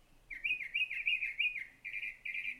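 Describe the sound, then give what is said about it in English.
A songbird with a widely varied, mimicking repertoire sings a warbling song: a run of quick rising-and-falling whistled phrases, then two longer, steadier bright notes, clear and alone with no talking. “I love this one because he's just got so many different songs, and there's this really kind of lonely, cool quality about his call that it lulls me to sleep.”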